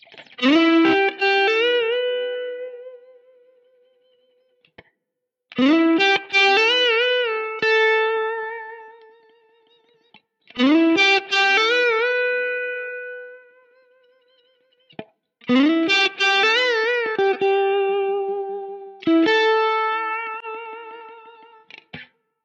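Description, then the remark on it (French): Electric guitar with a clean, slightly dirtied, crunchy tone for texture and sustain plays five ringing phrases of a song's lead, each a strummed chord or run that sustains and slowly fades before the next begins, with no voices. “Au niveau du son, vous l'avez entendu, on est sur un clean éventuellement un peu sali, un peu légèrement crunchy, histoire d'avoir un petit peu de texture et puis de sustain.”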